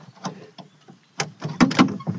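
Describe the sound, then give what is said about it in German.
The wooden door of an older, felt-lined hunting stand creaks and squeaks as it swings closed, a series of short, scraping groans building to a louder couple of creaks before it shuts, with no talking. “Man hört jetzt, klar, die Tier ist schon ein bisschen älter, haben wir mal ein leichtes Quietschen.”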